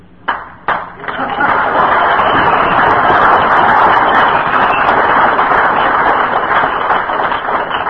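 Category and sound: crowd, audience applause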